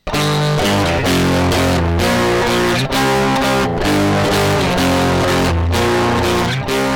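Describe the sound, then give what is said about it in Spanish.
A loud electric guitar played through a distortion pedal chugs through a run of crunchy, heavily distorted power chords. It plays alone, with short breaks between phrases and no voices. “O sea, ¿qué sería del rock and roll sin el distorsionador? A ver, que suene la distorsión”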